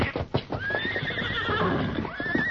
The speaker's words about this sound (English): Horses are scared. They smell it, too.